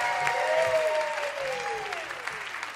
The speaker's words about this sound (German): Und die gute Nachricht ist, sie ist auch heute Abend mit dabei. Begrüßt sie mit einem extra großen Applaus.